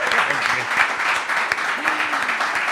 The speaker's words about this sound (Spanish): ¡Un aplauso para ella! Muchas gracias. ¡Qué maravilla!